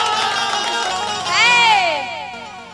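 A live audience cheers and shouts, a dense wash of many voices, with one loud rising-and-falling whoop cutting through near the middle before the crowd noise eases slightly.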